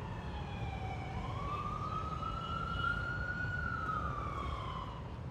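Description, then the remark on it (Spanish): An emergency siren wails steadily, its pitch slowly rising and falling over a constant low rumble of city traffic, fairly loud, with no one speaking. “Pitos, sí. Alarmas, sirenas.”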